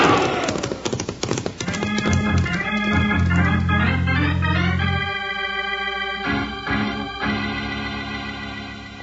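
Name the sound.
horses galloping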